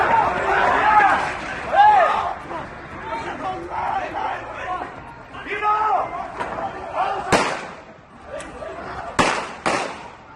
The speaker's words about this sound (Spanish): Todavía se ponen los pelos de punta al escuchar el sonido de los disparos en plena calle, en pleno paseo marítimo de Cambrils.